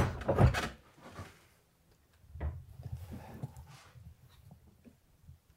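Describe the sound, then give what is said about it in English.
A heavy wooden hatch thuds shut with one loud, low knock, followed by a few seconds of soft creaking, shuffling and scraping as things settle. No one speaks. “Should I close you in? Yes, please.”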